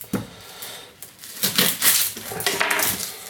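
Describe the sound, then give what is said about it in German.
A knife dices an onion into small cubes on a board while rouladen are being prepared: crisp, crunchy chops come in an uneven run, a few spaced taps first, then a denser flurry of cuts. “Schneide ich hier schön wieder in meine bekannten Würfelchen.”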